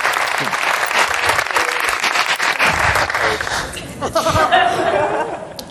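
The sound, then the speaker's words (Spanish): An audience at a comedy show claps steadily for several seconds in applause for a gentleman, a dense wash of applause mixed with scattered laughter and a few voices, tapering slightly near the end. “Un aplauso para el señorillo.”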